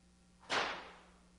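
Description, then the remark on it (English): A single sharp whip crack snaps out loudly, its bright burst fading over a short tail against a faint low hum, with no voices. “Are you hearing Hosannas, or are you hearing a whip?”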